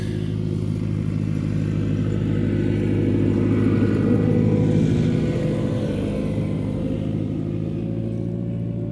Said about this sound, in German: Ich möchte dich mal ganz kurz unterbrechen. Hier kommt gleich der Traktor vorbei und dann hören wir wahrscheinlich nichts. Wir lassen den mal kurz passieren.